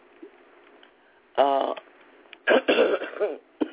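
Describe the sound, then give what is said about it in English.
A short throat clear followed by a burst of several raspy coughs, fairly loud, with a thin, band-limited broadcast quality and quiet pauses between. “hope to finally have this cough out of the way real soon.”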